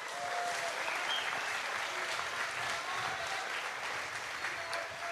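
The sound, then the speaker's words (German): Steady, dense applause from an audience fills the whole stretch, a continuous patter of many hands clapping at a fairly even level, with no speech over it. “Ja, vielleicht einen aufmunternden Applaus an Leo Greimel.”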